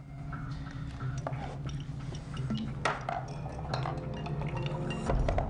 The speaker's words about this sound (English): He grabs a decanter and uncorks it. With shaking hands, he pours himself a large drink.